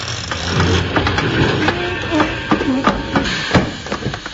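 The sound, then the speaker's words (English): A train grinds to a halt as its brakes are applied, with a heavy mechanical rumble, irregular clanks and knocks, and a brief squealing whine as it slows, fairly loud. “Now, where's that brake thing in the train?”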